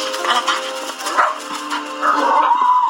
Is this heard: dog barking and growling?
yes